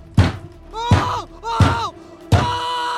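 hammering a nail

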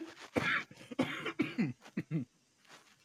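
coughing

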